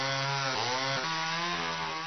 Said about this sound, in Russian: И пилит, и пилит, и пилит.